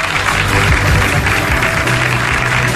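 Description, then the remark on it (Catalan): A crowd applauds steadily for a few seconds, a dense wash of clapping hands that stays loud and even throughout, with a low murmur of voices underneath, as the women race winners from RAC1 go up on stage. “Un aplaudiment per elles també, sisplau.”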